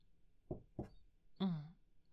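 Two quick, solid knocks on a door, evenly spaced, followed by a brief, louder tonal sound that trails off.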